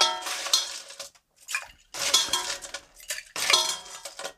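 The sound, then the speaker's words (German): Hard ice cubes clatter and clink into a metal cocktail shaker in several quick bursts, bright, with short pauses between each drop and no voices, as a Riesling-Sekt cocktail is being mixed. “3 Eiswürfel?”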